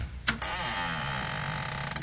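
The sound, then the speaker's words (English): The door of Trapper Dan's North Alaskan Bay Fur Company creaks slowly open with a sharp knock at the start, then a long, wavering, groaning squeal that drags on for about two seconds, loud and with no voices. “The last time I heard a door like that was on a tomb.”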